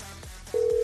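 An outgoing phone call's ringing tone, placed on the Elvis Duran in the Morning Show, cuts in abruptly halfway through, a steady, clear electronic hum held at one pitch, following a brief stretch of faint line noise. No one speaks.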